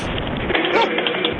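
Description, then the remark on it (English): A dog whimpers and gives a short, thin yip over steady phone-line hiss, with one brief rising whine near the middle. The sound is fairly faint and no one speaks. “Hey, is he the service dog?”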